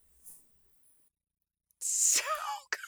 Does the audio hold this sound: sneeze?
yes